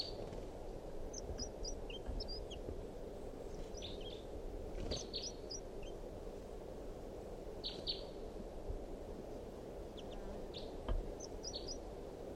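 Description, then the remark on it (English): A wild bird gives sharp, short alarm calls in scattered bursts of two or three notes, fairly faint against a steady low rumble of outdoor background noise. “So recording is a wild bird again, giving alarm calls.”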